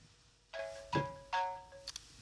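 A phone rings with a short electronic ringtone, a few bright tonal notes sounding in quick succession, fairly soft and steady, waking its owner, with no one speaking.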